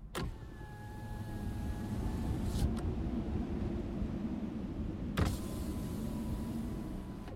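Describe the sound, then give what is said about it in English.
A car's power window whirs steadily as it rolls down, its motor humming inside the cabin with a click at the start and another thunk partway through, the low rumble of the car running underneath. “Can I roll my window down?”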